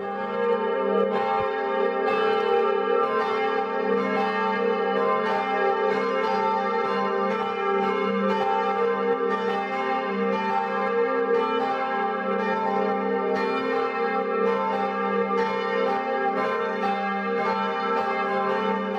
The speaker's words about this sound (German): So kräftig klingen die 5 Glocken der katholischen Filialkirche St. Bonifatius in Winzhausen, einem Ortsteil der Gemeinde Hohenroth.